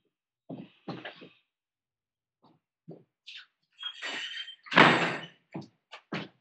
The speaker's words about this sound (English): Well, let me shut this door. Hold on. Okay.